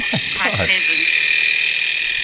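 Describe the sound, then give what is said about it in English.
A freezer's metal fan grinds against ice in a harsh, continuous whir with a steady high whine, opening with a few quick squeaky, croaking scrapes before settling into the constant grinding hiss. “It's a metal fan hitting some ice.”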